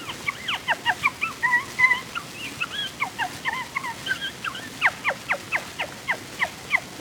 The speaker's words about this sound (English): The tiny wood or barn owl chuckles all through the early night.